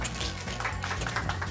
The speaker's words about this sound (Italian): Questo è l'applauso migliore che sapete? Facciamo un applauso!